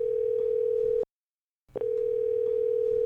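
A steady, fairly loud telephone tone hums for about a second as a call with a guest connects, cuts to silence briefly, then resumes and holds steady again. No voices are present.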